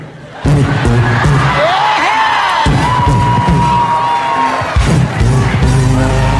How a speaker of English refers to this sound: The whole crowd starts singing. That man deserves a residency in Vegas.